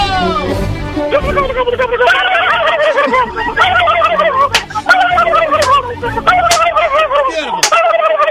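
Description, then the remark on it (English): Three people on a phone line imitate turkey gobbling at once, a loud, continuous chorus of warbling, rapid gobbles overlapping with bursts of laughter, sustained nonstop for several seconds until told to stop. “When I say go, you all are going to gobble like a turkey, and you do not stop until I tell you to stop.”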